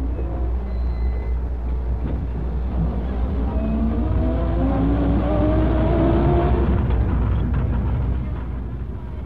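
A steady, droning bus engine rumbles throughout, with rising and falling gear tones as the bus drives at moderate speed north from Sumoto along the coastline toward a fishing village, fairly loud, with no voices.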